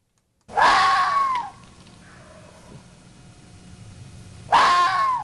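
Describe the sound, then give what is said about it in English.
Two loud, drawn-out screams of a vixen (female fox), a call foxes make especially around mating season, each about a second long and harsh, separated by several seconds of quiet background with faint rustling. “That is a vixen's scream, and that's one of the things a fox says, especially around mating season, which our guest says is getting underway.”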